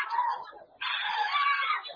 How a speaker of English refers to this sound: Bring for me the lady that shouts loud now under the anointing to the hearing of everybody. The power of God is coming on a lady in a congregation. It's a loud shout to the hearing of everybody.